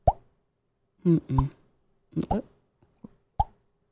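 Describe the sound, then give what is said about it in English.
Someone imitates a drop of water falling into a bucket of water by tapping a cheek: a few short, hollow plops with a quick upward pitch bend, spaced irregularly, with brief voiced sounds between them. “like dropping a drop of water into a bucket of water.”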